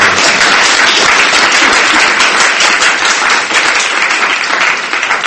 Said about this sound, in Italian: Accogliamo anche lei con un applauso.